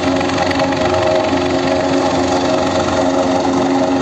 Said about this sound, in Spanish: Y en A Coruña, en las últimas horas, sonaba el helicóptero de rescate.